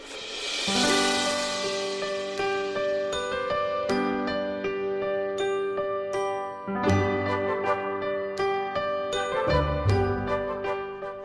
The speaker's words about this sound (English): Oh, isn't that lovely? It's beginning to feel... Look at that and the sleigh bells and the reindeers and all the rest. It's not even December yet.